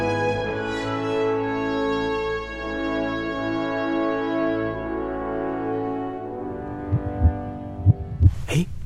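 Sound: heartbeat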